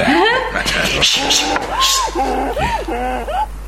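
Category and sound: animal, donkey braying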